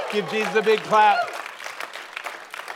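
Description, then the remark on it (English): A man's voice calls out briefly, then a church audience at Bayside breaks into steady, dense clapping for Jesus during worship that continues at an even level to the end. “Come on, give Jesus a big clap.”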